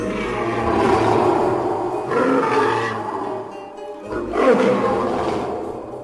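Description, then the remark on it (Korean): Several lions roar and howl in long, overlapping, loud bellows in a cave, with a brief gap near the end before another deep roar surges in. No one speaks. “사자들에게는 동굴 말고 다른 신전은 없으니까 그의 궁전 신하들도 왕이 하는 양을 따라 각기 울부짖어대는 소리가 들렸다.”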